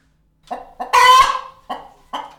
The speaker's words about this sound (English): And if we look at the next slide, we can hear what a chicken just normally sounds like.